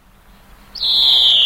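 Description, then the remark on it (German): After a quiet start, a greenfinch gives a loud, drawn-out call with a high pitch that slides gently downward and holds steady to the end, alone without any voices. “Der macht verschiedene Triller hintereinander und immer wieder mal einen Triller, der so abfällt, so schrei.”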